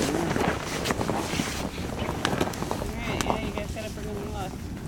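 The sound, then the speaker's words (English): Steady wind gusts buffet the microphone outdoors on open water during a fishing trip, a dense rushing roar that never lets up, with faint, indistinct voices murmuring underneath toward the end. “Yeah, I just wish it was so windy.”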